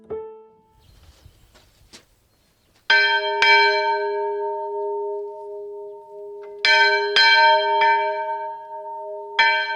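A small church bell rung by pulling a rope strikes several times at uneven intervals, each loud, bright clang leaving a long ringing hum between strikes, heard nearby with no talking.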